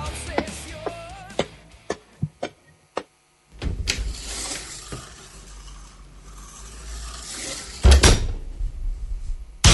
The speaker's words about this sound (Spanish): abre la puerta de la sala de autopsia.